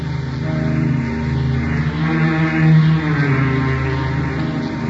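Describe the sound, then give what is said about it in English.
A steady, droning motor launch engine rumbles continuously with a low hum and strong harmonics, loud, with a rushing wash of water mixed in throughout as the boat strains through billowing waves toward an island while rain clouds gather for a squall. “Rain clouds were gathering for a squall as the motor launch strained through billowing waves toward an island looming on the horizon.”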